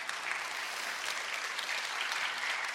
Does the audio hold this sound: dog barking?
no